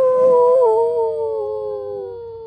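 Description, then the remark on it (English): A single long wolf howl, a sustained clear tone that slowly slides downward in pitch and fades, fairly loud, with no talking. “How does the wolf say, "How are you?"”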